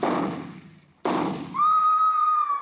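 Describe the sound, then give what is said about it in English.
Two loud rifle shots about a second apart, fired at a woman and hitting her, each a sharp crack trailing off in a rumbling decay; a sustained high-pitched wail starts under the second one. “I raised my rifle and...”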